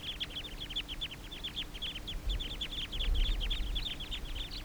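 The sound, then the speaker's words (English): Wild birds calling: a rapid, continuous series of short high-pitched calls, dozens of clucking chirps overlapping in a steady chattering rhythm, with a low rumble underneath and no talking. “These are the wild birds continuing to call.”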